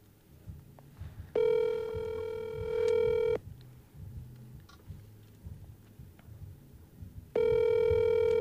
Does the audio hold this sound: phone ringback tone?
yes